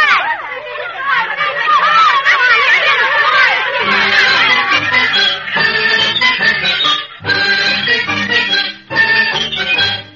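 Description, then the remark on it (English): An angry crowd at a celebration in uproar, many voices shouting and clamoring over one another in a dense, continuous roar, with a couple of brief lulls near the end. “Well, as you can imagine, if you know anything about Yeled, the celebration was exploded into an uproar.”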